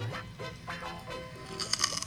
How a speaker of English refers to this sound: Okay, so that was me eating a kosher pickle.